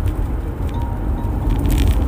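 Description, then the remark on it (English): Steady low rumble of a car cabin during a short drive on a rough road, with thuds and rattles from bumps, plastic or paper grocery bags moving around in the back, and a faint crackle, continuous, no voices. “It's just really great sometimes to drive with no extra noise, just your bumpy car.”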